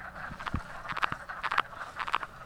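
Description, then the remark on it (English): A chorus of male wood frogs gives their mating calls, a dense overlapping clatter of short duck-like clucks and chuckles, some loud, others fainter, with no talking. “What you're hearing from everyone else is their typical mating call.”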